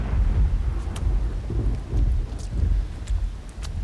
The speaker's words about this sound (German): Mist, was für ein gottverdammtes Scheißwetter. Ein Sturm zieht darauf und ich bin allein mitten in nirgendwo in diesem verfluchten Wald.